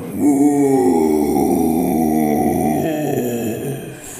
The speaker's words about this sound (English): For a second, you're convinced it's looking straight at you. But then it shakes its great furry coat and gives an icy, stinky roar.